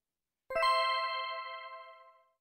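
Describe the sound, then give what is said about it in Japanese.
A chime sounds a quick two-note ding-dong as a cue in a reading exercise on the silent E. It is struck twice in rapid succession, then rings out clearly and fades over about two seconds in otherwise silent surroundings. “チャイムに合わせてサイレント E を指で隠したり話したりしながら読んでみましょう。”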